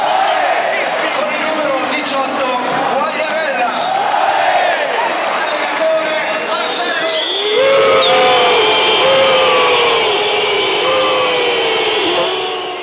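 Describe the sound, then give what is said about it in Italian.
A loud crowd at the Bari stadium roars and whistles in disapproval at Italy national coach Marcello Lippi during the Italy–Ireland World Cup qualifier, shrill overlapping whistles streaking above a dense wall of voices that swells even louder about halfway through and stays sustained. “Questi erano i fischi dello stadio di Bari a Marcello Lippi, allenatore della nazionale italiana.”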